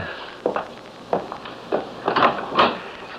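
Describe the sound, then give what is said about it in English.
A door is opened, a series of short knocking and scraping clunks spread over a few seconds, the last ones louder, with no one talking. “Now open the door.”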